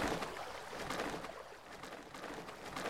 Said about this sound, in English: I'm coming up on the river which flows north. Once I reach it, you hear it getting louder.